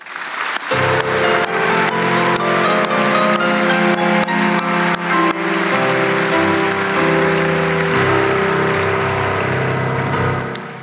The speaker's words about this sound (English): I'm just going to ask you, if you're happy about the vote and happy about the music, to clap your hands to the Lord.